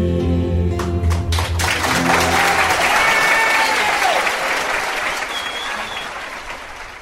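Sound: audience applause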